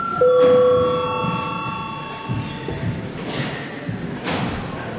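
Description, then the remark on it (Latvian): A single electronic bell tone sounds during a session of the Latvian parliament (Saeima), rung to call a break and deputies' registration, with bright ringing overtones that slowly fade over a couple of seconds, leaving a low murmur of background noise and shuffling. “Ir laiks pārtraukumam, lūdzu zvanu, lūdzu deputātu reģistrācijas režīmu.”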